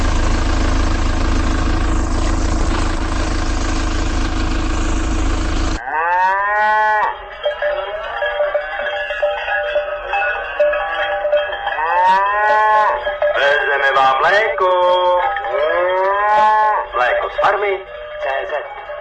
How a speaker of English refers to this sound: The sound of mooing and cowbells resounds in Prague's southern Řepy district on the early morning air.